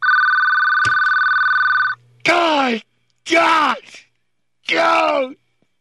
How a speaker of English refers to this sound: I can't stand the sound of a ringing phone. Will you answer it, please?